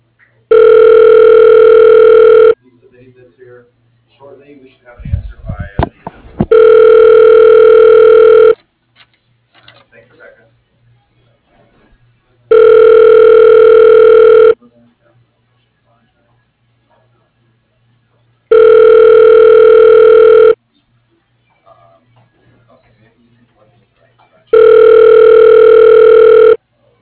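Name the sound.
telephone ringing tone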